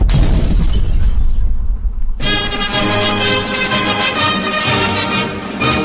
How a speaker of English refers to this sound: Suburban explosion kills suspected terrorist. Washington Post scores incredible real-time pictures of the devastation.